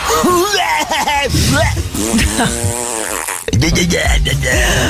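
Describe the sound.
A voice mimics Taz, the Tasmanian devil of the Looney Tunes cartoons, loudly growling, gargling and spluttering in rapid, wobbling bursts for several seconds with only a brief pause.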